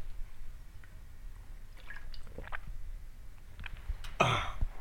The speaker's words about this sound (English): Clear my throat out a little bit.